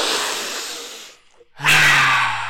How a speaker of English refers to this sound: They do smell good. Right? Right, that's why we sniff! I think you were smelling your microphone more than you were smelling your cards. All right. You microphone sniffer.